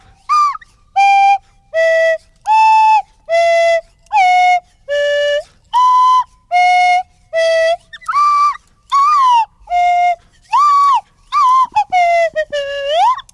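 A Swanee (slide) whistle plays the bouncy melody of a pop hit in about fourteen short, loud, clear notes with little swoops between pitches, ending in a few quick sliding glides; no voices.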